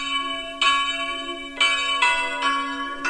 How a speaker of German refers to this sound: Obwohl wir nur eine läuten können, die Technik macht es möglich. Die erste Glocke, die Sie hören, wird die Glocke sein, die wir momentan läuten.